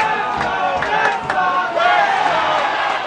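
A crowd of Yankees fans in the Harry Monk bar yells the chant "Let's go Yankees!" together to taunt Red Sox supporters in the tense final moments of a game, loud, overlapping voices with strained, pitched shouting that swells in waves and stays continuous throughout.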